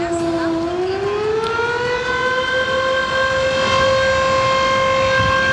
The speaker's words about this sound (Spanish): En estos momentos suenan las sirenas de las 10 compañías de bomberos de acá de Valdivia, lo que marca el inicio de este simulacro, donde, recordemos, se va a simular un terremoto de magnitud 8.8